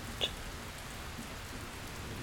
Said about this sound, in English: Not to mention the sounds of the rain.